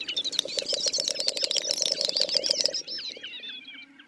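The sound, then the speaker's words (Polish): A displaying snipe gives quiet dry clicks that build in speed and loudness into a fast rattling patter like a ping-pong ball bouncing on a table, with thin whistly calls of a jack snipe doing its display flight in the background; the rattle stops abruptly, leaving softer calls trailing off. “Potem tokujący ptak nadyma się, a do cichych kliknięć dołącza szybki stukot, brzmiący niczym odbijająca się na stole piłeczka ping-pongowa.”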